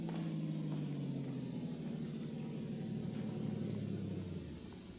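A car engine rumbles steadily, its low hum sinking in pitch as the vehicle slows, then dropping away as it comes to a stop out front.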